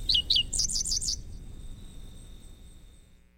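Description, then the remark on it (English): A grassland bird of the central U.S. sings a quick, high-pitched burst of bright chirping notes for about a second, then stops, leaving a faint high insect-like trill and low background rumble. “this summer, look and listen for this emblem of grassland habitats.”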